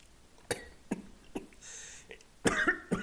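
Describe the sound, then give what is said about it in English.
A series of short, sharp coughs, four or five in quick succession with a brief breathy rasp in the middle, the last few louder and harsher, with no talking. “Made me cough.”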